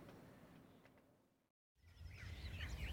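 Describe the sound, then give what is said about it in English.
Birds sing outdoors in warbling, overlapping trills over a steady low rumble, rising clearly after a brief silent break partway through. “Just listen to those birds”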